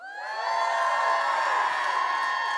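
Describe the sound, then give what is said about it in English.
A large crowd screams and cheers loudly, a dense wall of high-pitched voices that swells within the first half second and holds steady without letup. “So scream really loud if you know my son”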